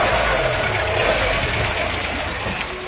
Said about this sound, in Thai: เบิ้ลเครื่องยนต์1ครั้งจะเผาผลาญน้ำมัน5 cc น้ำมัน1ลิตรจะปล่อยก๊าซคาร์บอนไดออกไซด์ 2.6 กิโลกรัม